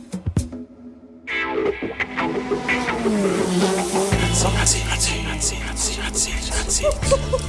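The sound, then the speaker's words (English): A race car engine roars and revs, its pitch climbing in rising sweeps, then settling into a loud, steady, buzzing drone with a deep rumble underneath. “You're revving up some iconic sounds there”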